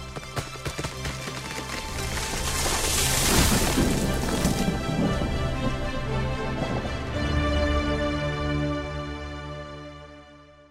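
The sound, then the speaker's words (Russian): Two uprooted trees come crashing down to the ground, a long, loud rumbling crash of splintering wood and heavy impacts that swells and rolls on for several seconds over a steady droning hum, with no talking. “Под действием колоссальной силы Верховной Личности, их стволы, листья и ветви сотрясла дрожь, и оба дерева с грохотом рухнули на землю.”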